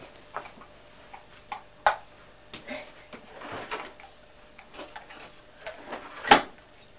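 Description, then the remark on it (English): A drawer is pulled open to get scissors out, with a series of sharp clicks, knocks and rattling as items inside are shifted, ending in a louder clack. “are you allowed to get scissors out of the drawer?”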